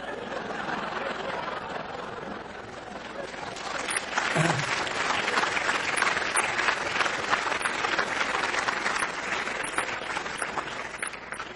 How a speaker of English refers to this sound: As Will Rogers said, we can't all be heroes because somebody has to sit on the curb and clap as they go by. Thank you for clapping.